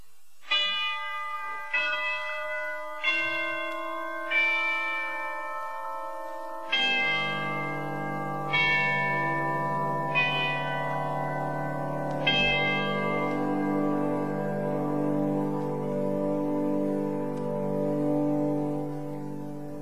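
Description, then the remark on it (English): Cathedral chimes on a pipe organ ring out a slow sequence of resonant bell strikes, then a sustained organ chord swells beneath them and the chimes fade into a long reverberant tail. No one speaks. “No pipe organ, whether it be theatrical or classical, church organ, would be complete without the cathedral chimes. And here we hear the chimes.”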